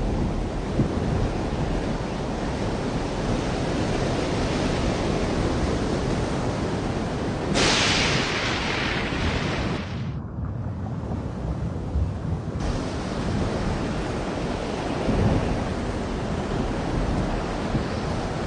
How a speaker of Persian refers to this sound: بلند شو، طوفان در راه است، مگر نمیبینی؟